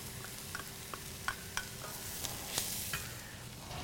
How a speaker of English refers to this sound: And we're gonna let those saute for a moment. And while these are sauteing, we just wanna soften them a little bit, but they are gonna go in the oven, so we don't have to cook them through